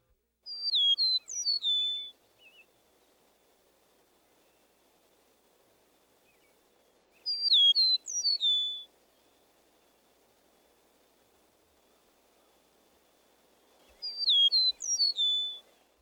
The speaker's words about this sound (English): Let's move on to a new whistler, the eastern meadowlark. We introduced this species earlier. Spring of the year.